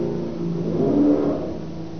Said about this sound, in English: Motorbikes.